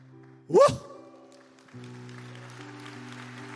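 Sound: audience applauding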